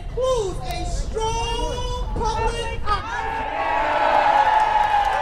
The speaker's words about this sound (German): Pflichtbewusst werden Parolen skandiert und Reden gehalten. Es wird gejohlt und geklatscht und doch ist die Stimmung eher gedrückt.